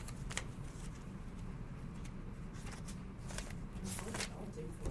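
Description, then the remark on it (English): Intermittent rustling and crinkling as someone sifts through a pile of papers kept over a semester, searching for copies of a sheet of rules, with short bursts of handling noise over a steady low room hum. “So and earlier today in this pile of paper I've kept over the semester. Let me see if I can find them.”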